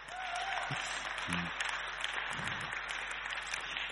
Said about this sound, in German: Gebt den beiden bitte mal einen Applaus.